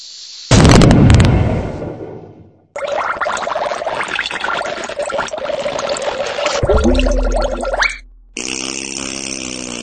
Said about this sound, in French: Hey, c'est une bombe atomique, le cave! Si tu fais ça, tu vas le regretter! Je suis désolé, c'est de ma faute. La bombe était trop puissante.